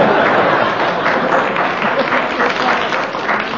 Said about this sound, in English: That applause should be enough to please you. I can't live by applause alone. Man cannot live by applause alone.